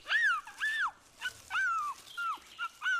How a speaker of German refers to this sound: Der kleine Fuchs winselte noch lauter.